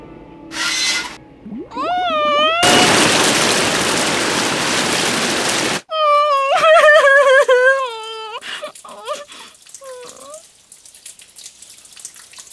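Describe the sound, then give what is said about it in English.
A loud, steady rush of water spraying from a fire brigade's hose as the water is turned on, lasting about three seconds, with whining, wailing cries before it and more cries and short squeaks after it cuts off. “Soon, the fire brigade arrives. Turn the water on!”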